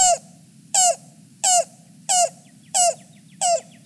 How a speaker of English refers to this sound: Next, a yellow-billed cuckoo, always a rare treat to find, joined the chorus, cooing from somewhere off in the woods.